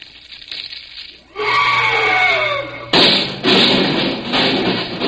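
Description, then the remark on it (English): A loud, brassy elephant trumpet sound effect from a junior sound effect kit blares out with a wavering, sliding pitch, followed by several harsh, raspy bursts of trumpeting that cut in and out over about five seconds. “Elephant getting a hot foot.”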